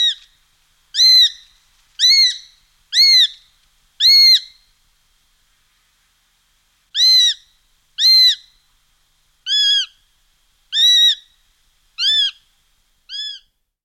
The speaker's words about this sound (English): If you hear a mewing from the treetops, you found a group of young sparrowhawks waiting to be fed.